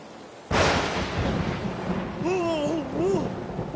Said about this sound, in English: When the thunder... When the you-know-what gets too loud... Yeah? With bams and booms and bags... Yeah? I pretend the storm's an orchestra, playing extra loud music.